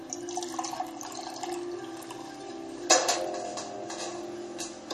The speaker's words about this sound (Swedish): Han tar fram ett glas, häller upp ur en öppnad vinflaska.